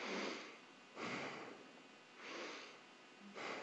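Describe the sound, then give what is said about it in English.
A voice imitates the heavy breathing of a man heard over the phone: four loud, rough, airy breaths in a slow, steady rhythm, alternating inhales and exhales, with no words spoken. “And then I heard him breathing like this.”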